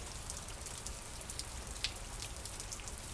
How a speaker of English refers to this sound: And it's interesting that today it has decided to pour down. In fact, it's properly Mancunian weather. Listen to this awful rain.